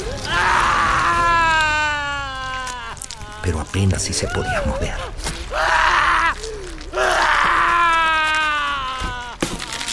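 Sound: man screaming in pain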